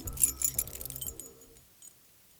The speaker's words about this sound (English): He refused to stop there and was thankful he didn't lose his keys in the forest as he desperately tried to unlock his door.